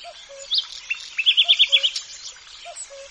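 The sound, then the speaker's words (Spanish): A nightingale sings close by in a shady grove in a national park, where trees form a canopy, a quick run of bright repeated notes among other trills, while a cuckoo's soft, low two-note call repeats faintly in the distance. “Un ruiseñor cercano o un cuco a lo lejos.”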